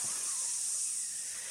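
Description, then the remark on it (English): A steady, continuous hiss like steam escaping from a valve, bright and airy, holding at an even level with no voices or other sounds. “Sounds like steam going off in here.”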